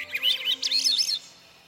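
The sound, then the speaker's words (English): A single bird sings a quick, warbling phrase of high chirps and trills lasting about a second at dusk, one of the last bird sounds of the day before nightfall, then fades out into quiet, with a faint low hum underneath. “Let's listen as the last bird sounds of the day recede into nightfall.”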